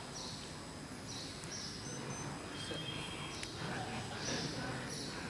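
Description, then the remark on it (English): Soft outdoor ambience in a forest of kadamba trees: birds chirping in short, repeated bursts over a faint, steady buzz of bees, all quiet with no voices. “I want to bring you back to that forest of kadamba trees where there's just the buzzing of bees and the chirping of birds.”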